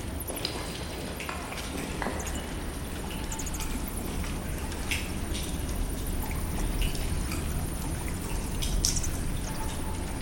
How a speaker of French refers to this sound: Alors là, on est en train de traverser effectivement cet antre de la Sibylle et peut-être qu'on entend derrière moi des bruissements, des bruits de chauve-souris, des gouttes de stalactites, des gouttes d'eau qui tombent de stalactites.